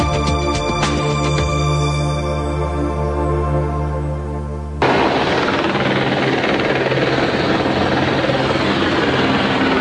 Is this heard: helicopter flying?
yes